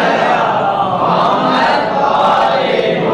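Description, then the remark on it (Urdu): A large audience at a Ramadan gathering chants salawat together in unison, a loud, dense wash of many voices sustained throughout with a slight rise and fall, with no single speaker standing out. “اگر یہ بات صحیح ہے تو صلوات بھیجیں.”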